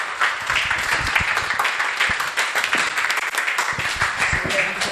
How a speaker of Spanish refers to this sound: Un aplauso